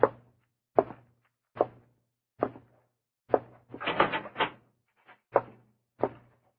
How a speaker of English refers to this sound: I wish you to walk to that cell in the far corner, go in, and close the door behind you. You will then stand with your back to the door.